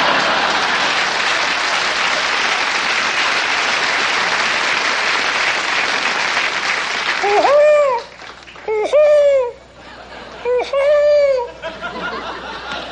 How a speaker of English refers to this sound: That's elk. They're in... Oh. They're in rut now.